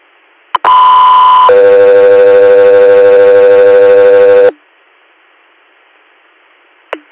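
Dispatch paging alert tones for Guthrie Air: a brief click, then a loud steady tone that shifts to a lower, longer second tone, holding for about three seconds before cutting off. Another click follows.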